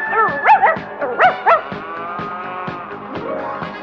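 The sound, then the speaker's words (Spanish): Totó, a small dog on a farm in Kansas, yaps about five times in a quick, excited burst, fairly loud, over a steady background hum that carries on after the barking stops. “su mejor amigo era un simpático perrito a quien llamaba Totó.”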